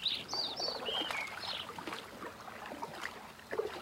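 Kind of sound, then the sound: bird, birds singing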